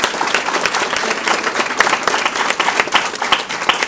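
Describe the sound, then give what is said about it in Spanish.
Loud, sustained applause from a large audience at an evening conference, called for so that people waiting outside come in, dense overlapping claps continuing steadily for several seconds with no voices standing out. “Les pido el favor de que demos un fuerte aplauso para que las personas que están afuera entren, por favor.”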